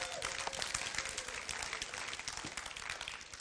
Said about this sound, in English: Come on. Do you love him? Give him another big hand clap.